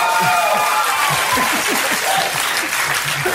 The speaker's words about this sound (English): Sorry, I know you guys wanted to clap, but everything I'm going to say is going to be amazing.